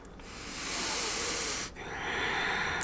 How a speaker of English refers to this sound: breathing together. Ah, you feel that now. How many of us there are joining together.